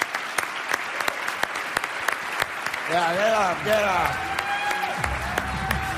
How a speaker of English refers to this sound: So let's give him a big round of applause.